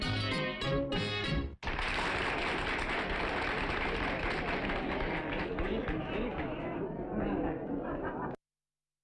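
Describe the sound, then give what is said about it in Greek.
A short musical ending gives way to a burst of dense, sustained audience applause with cheers that carries on steadily for several seconds before cutting off abruptly. “Χειροκρότημα για τη σπουδαία τεράστια, έτσι.”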